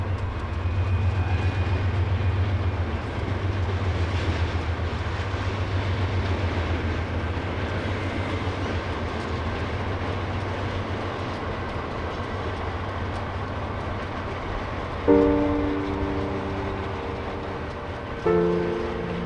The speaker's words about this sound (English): Am Anfang und am Ende des Stücks steht das Geräusch eines vorbeifahrenden Zuges.